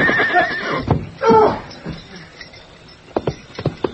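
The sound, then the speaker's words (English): A horse whinnies loudly and shrilly, with a second high neigh soon after, followed by a quieter stretch and then a scatter of sharp thuds and hoof clatter as the horse, ridden hard at night over ground studded with gopher holes, trips and falls. “His horse tripped and fell.”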